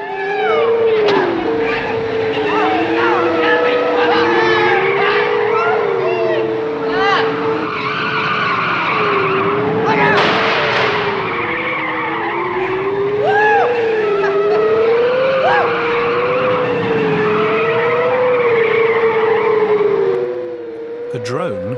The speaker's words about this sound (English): All three buggies skid round corners. They're having great fun.